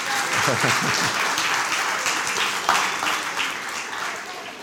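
A church crowd applauds the people acting as Levites who carried the ark, a dense wash of many hands clapping at full strength, with a few brief voices cheering at the start, before the ovation gradually tapers off.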